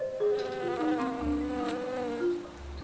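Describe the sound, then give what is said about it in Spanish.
Flies buzz steadily, a wavering, droning hum that rises and dips in pitch as they circle, with no voices present. “En instantes, las moscas vuelven a la vida y despliegan sus alas traslúcidas, así lo contó, como el ave fénix, que también renace de entre las cenizas para posarse dócil en la mano de su resucitador.”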